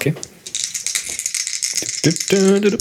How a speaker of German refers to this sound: Wir würfeln jetzt wieder den Gewinn aus und zwar fängst heute du an.